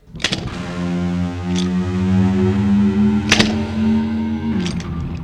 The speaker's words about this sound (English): A scale is a ladder of tones between the octave. And, like skinning a cat, there's more than one way to get up to the octave. But the best known ladder, the best known scale, sounds like this.